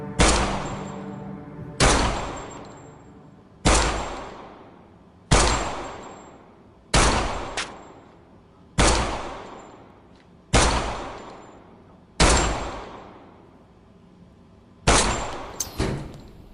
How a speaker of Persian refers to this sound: شما عجب تیرانداز قابلی هستید. یه شلیک یه مرگ.